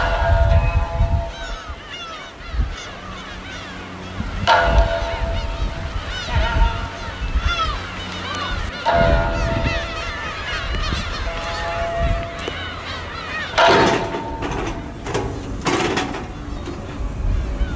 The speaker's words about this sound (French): Et il y a tous ces oiseaux de mer sur des bancs de sable au milieu du canal qui remonte vers la ville.